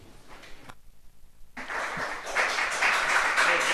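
After a brief hush, an audience at a town council meeting breaks into applause: many hands clapping at once in a dense, steady wash that stays fairly loud and builds slightly toward the end.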